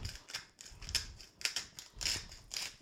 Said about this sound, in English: And then grind some sea salt into them.